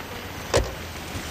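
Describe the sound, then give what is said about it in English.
A man opens the passenger-side door of his parked car for a woman, downtown in a village: a single short mechanical clunk of the latch against a steady low background hum, with no voices. “He opens the door for her.”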